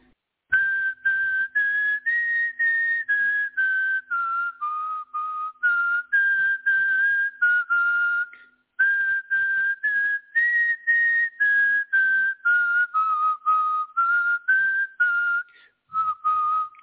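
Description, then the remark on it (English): A person whistles a clear, nearly pure tone in short repeated bursts, the pitch drifting gently up and down, with a brief pause midway. Fairly loud, with no talking. “Well, I could whistle if you want.”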